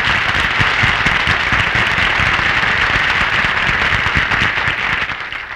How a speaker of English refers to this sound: Folks, it's Mel Blanc. Give him a big hand.